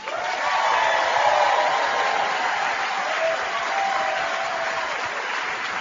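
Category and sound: crowd, audience applauding loudly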